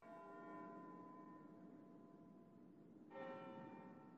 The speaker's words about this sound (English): They heard a bell ringing.